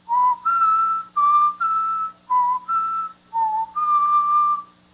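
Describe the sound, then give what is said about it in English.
A person standing in front of the statue of the Venerable Bede whistles a short tune from a written musical theme, the notes B-E-D-E-E-B-E-A-D, about nine clear, sustained notes in quick succession, each pitch held briefly before stepping to the next, fairly loud with no talking. “Let me see if I can whistle those notes written in the musical theme.”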